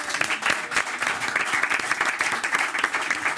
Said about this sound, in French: Applaudissements pour Jean-Christophe Ruffin.